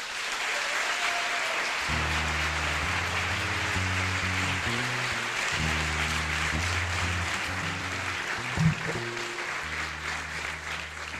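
An audience applauds loudly and steadily throughout, a dense crackling wash of clapping, while low, stepping musical chords begin playing underneath after a couple of seconds.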